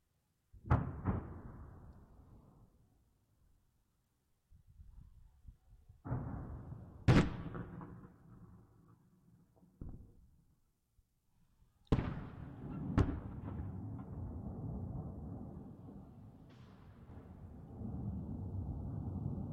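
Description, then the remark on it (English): A series of explosions near the Antonivsky Bridge in Kherson, Ukraine, in the conflict between Ukraine and Russia: sharp booms arriving in irregular clusters, each trailing into a long rumbling echo, with a low steady rumble filling the gaps between blasts. “Explosions were heard near the Antonivsky Bridge in Kherson.”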